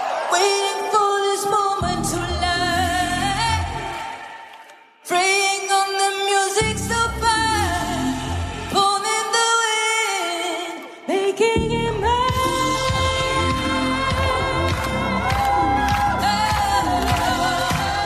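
A disco song is performed live at the Cannes Film Festival as part of a medley. It plays loud and full, with a steady beat, bright layered instruments and sustained melodic lines, briefly dropping out twice before the groove kicks back in.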